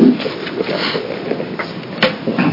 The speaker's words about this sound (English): reconvening the committee on, I'll hit the gavel one more time for the record.